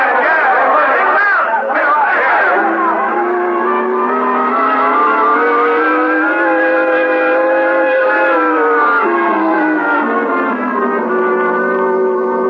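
An angry crowd milling around outside the jail in Weatherby, Arizona, shouts and mutters in a loud, continuous mass of overlapping voices, the sustained roar swelling slightly and easing over about twelve seconds without any individual words standing out.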